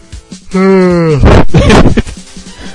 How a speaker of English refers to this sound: Oh, dear. I should probably stop yawning. That won't help. Well, it's something that you can't stop doing, really, isn't it?